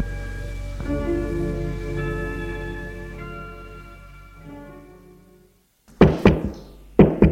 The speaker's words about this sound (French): On a frappé à la porte.